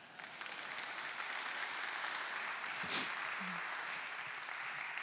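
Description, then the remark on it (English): A crowd applauds the news that the SAG-AFTRA strike is over, a dense wash of clapping hands holding an even level for the whole stretch, with a brief swell near the middle and no one talking over it. “Y'all can applaud on this next one, that the SAG-AFTRA strike is over.”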